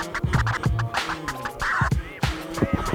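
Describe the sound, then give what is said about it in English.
A tile cutter, pressed down onto a tile not too hard, scores across it, making a gritty, scratchy rasp broken into uneven bursts, with thin squealing tones riding over the scraping. It is fairly loud, and no one speaks. “Put it onto the tile, press down not too hard, and then listen for the cutting noise.”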